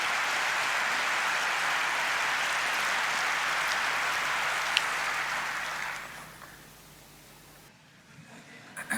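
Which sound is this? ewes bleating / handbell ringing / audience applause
audience applause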